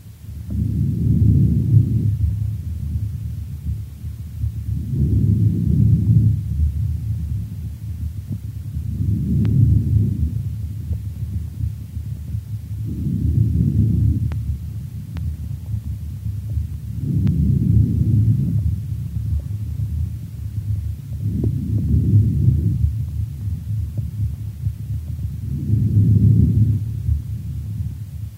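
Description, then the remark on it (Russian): Laryngotracheal breathing heard through a stethoscope: about seven coarse, rushing breath cycles repeating at a steady pace of roughly one every four seconds. The sound is low and muffled, with no voices. “Таким образом, ларинготрахеальное дыхание представляет собой более грубый по тембру и высокочастотный шум, причем продолжительность выдоха превышает длину вдоха.”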